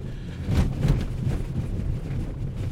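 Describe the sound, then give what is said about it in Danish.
A steady low road rumble broken by several dull thumps at uneven intervals, as a car is deliberately driven into potholes and its somewhat springy suspension knocks. No one speaks. “Det, I kan høre, det er de huller, jeg kører henover.”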